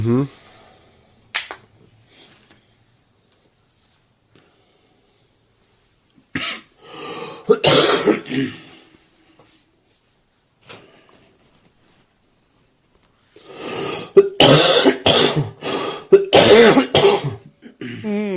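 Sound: coughing and throat clearing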